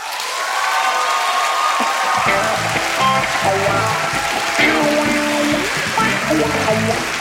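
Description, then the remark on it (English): A Snap Judgment live show audience claps and cheers for a performer in a steady, sustained, loud round of applause, as music with a low bass line comes in underneath after a couple of seconds. “I want to give a great big Snap Judgment round of applause”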